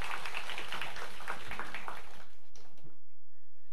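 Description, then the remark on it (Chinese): An audience at a church service applauds, giving the applause to Jesus, with dense, steady clapping for about two and a half seconds, then it cuts off quickly into near silence with only faint room noise. “我哋好多谢咧，今日妈妈团契我哋当中带领好有力的敬拜，我哋将掌声归俾耶稣，亦都多谢佢哋嘅服侍。”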